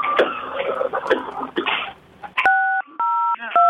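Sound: telephone keypad tones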